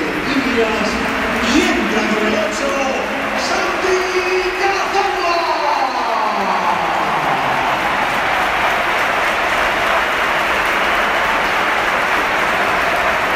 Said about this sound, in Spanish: esta es la ovación que le ha dedicado el Bernabéu, que ha sido espectacular también cuando entraba el jugador del Oviedo.